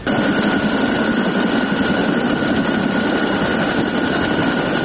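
A loud, steady roar of a NATO military helicopter patrolling over Kabul, Afghanistan, passing overhead, its dense engine and rotor noise filling the air continuously without any voices.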